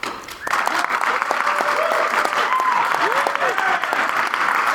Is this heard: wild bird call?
no